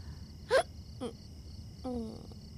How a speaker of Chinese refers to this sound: 咦？刚才就在打嗝，是受凉了吗？